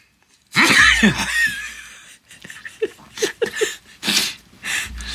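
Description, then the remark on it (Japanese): A loud, sudden sneeze bursts out from an old man with a runny nose, followed by breathy, chuckling exhalations and a few short voiced sounds before a softer second burst near the end. “おじいさんは大変、お話はしなきゃいけないし、鼻水は出てくるし、くしゃみは出るし”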